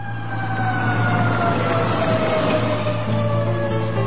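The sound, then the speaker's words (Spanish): A fire engine siren blares loudly and continuously, its sustained tones sliding slowly in pitch over a low, steady engine rumble, with no voices. “Una alarma lo sacude de pronto.”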